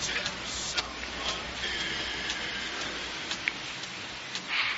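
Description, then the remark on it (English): A steady, dense hiss of rain pours down outside without a break, scattered with sharper drops and splashes, moderately loud, with no voices. “What's it doing outside? Still raining? Buckets.”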